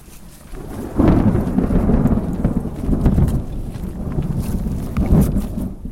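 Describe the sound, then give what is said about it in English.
Deep, rolling thunder rumbles through a steady rainstorm on the Snow Lake Trail near Snoqualmie Pass, swelling loudly around a few moments, with faint crunching from a few hikers in the foreground. “So that was the sound of thunder, but you can hear a little bit of crunching in the foreground, and that's listener”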